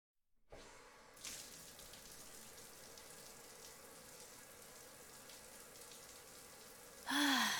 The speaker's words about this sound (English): So refreshing. I'd spend all day in the shower if I could.